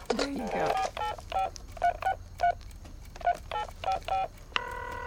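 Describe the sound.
A quick series of electronic touch-tone beeps as a phone number is dialed, about ten short tones in an uneven rhythm, ending with a longer steady tone; brief voice at the start.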